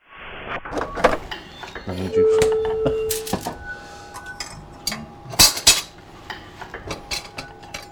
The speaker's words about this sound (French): Alors le principe du Ear Cooking, c'est de disposer des micros dans une cuisine et puis de capter les sons durant la préparation d'un repas. Alors les sons, c'est les conversations, les bruits des instruments de cuisine, etc.